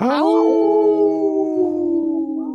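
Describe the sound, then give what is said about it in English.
A single long, wolf-like howl from a person off camera during a Native Roots Radio show, rising sharply, then holding a steady, slowly falling tone for over two seconds. It is loud, with no talking over it. “got a howl in, too, off camera here.”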